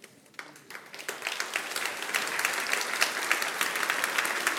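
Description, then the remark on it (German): Applause from an audience at a prize award ceremony starts with a few scattered claps and quickly builds into steady, dense clapping that holds at full strength to the end. “Applaus”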